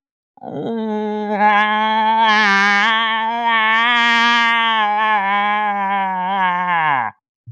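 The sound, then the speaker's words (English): A person imitates a cow moose call with one long, nasal, wavering moan lasting about seven seconds, loud, sliding slightly downward in pitch before breaking off abruptly. “Hey, before we go, Give us one more moose call.”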